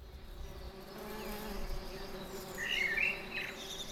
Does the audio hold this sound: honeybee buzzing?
yes